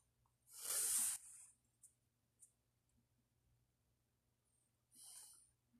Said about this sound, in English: Let me have one more. Let me have one more sniff.